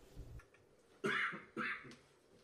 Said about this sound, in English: It's over here coughing. I got something in my throat.